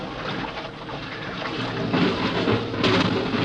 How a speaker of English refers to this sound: It's like an airlock. Water's being pumped out.